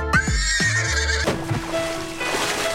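A horse lets out a loud whinny with a shaky rising-and-falling pitch, followed by softer snorting and a fading neigh, with no voices present.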